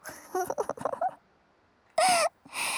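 A drawn-out yawn: a run of soft voiced, moaning tones, a pause, then a breathy rush with a brief rising-falling whine and a long airy exhale.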